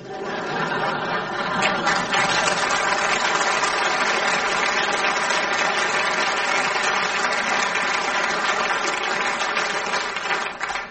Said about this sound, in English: The scourge of modern civilization, the motor car. Dirty, smelly, and no one knows what's going on under the bonnet. Why? It's all down to the invention of the internal combustion engine.